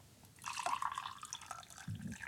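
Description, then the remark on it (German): Hot water pours in a steady stream, splashing and trickling with a bright, bubbly texture before a brief lower gurgle near the end. “die Wärme des Wassers, also wenn das Wasser heiß ist, dann verändert sich die Viskosität, also praktisch die Zähflüssigkeit vom Wasser.”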